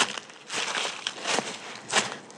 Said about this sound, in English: I live in London, but I've got a kind of field at the end of my garden. It's snowed. You might be able to hear my boots on the snow.